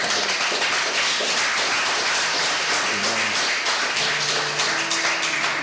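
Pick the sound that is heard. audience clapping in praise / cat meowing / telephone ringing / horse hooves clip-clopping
audience clapping in praise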